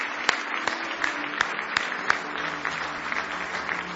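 A church audience claps hands together in sustained applause of praise to the Lord during a morning service, a dense crackle of many hands with a few sharper claps standing out, loud and continuous throughout.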